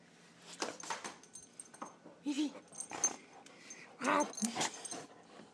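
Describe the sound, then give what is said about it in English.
Scuffling and low growls from a dog playing with her plush wiener dog toy, punctuated by a few short, uneven squeaks as the toy gets chomped. “Usually she'll get going and squeak the hell out of it. And I think you heard a little tidbit of that, but she won't.”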